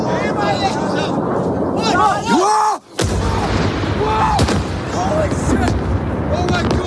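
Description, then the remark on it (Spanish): Iranian missile impact explosions in Jerusalem in the early morning boom and rumble in a dense, continuous roar, with a sharp blast after a brief drop near the middle. Voices shout and exclaim over the din throughout. “Estos impactos son de esta misma madrugada.”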